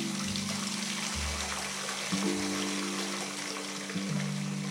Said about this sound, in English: He reached the gate, twisted the stiff and squeaking tap, and stood waiting for the can to fill, leaning heavily on the fence post.